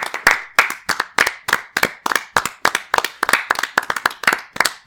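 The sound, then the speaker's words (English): Steady hand clapping, around a dozen sharp claps in a quick, slightly uneven rhythm, loud and on its own with no talking. “Please don't clap.”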